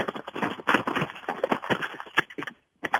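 The paper of a script rustles and crinkles in a steady run of irregular, scratchy bursts, dropping to silence for a moment near the end before a final crackle. No one speaks.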